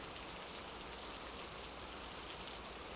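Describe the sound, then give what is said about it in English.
Steady pouring rain fills the scene with a dense, unbroken hiss of drops striking surfaces, constant in level throughout, with no voices or other sounds. “Even if it's your dumb idea to stand outside in the pouring rain like you're the protagonist in some melodramatic anime.”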